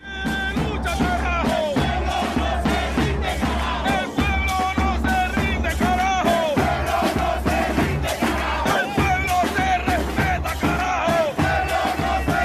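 A large street crowd at a protest mobilization in Chocó chants and shouts in unison, loud and sustained, with rhythmic pulses of voices and a steady low rumble throughout.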